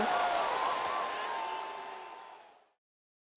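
A burst of crowd applause, called for to open a story, with some cheering mixed in, dense and steady at first, then gradually fading away over a few seconds into silence.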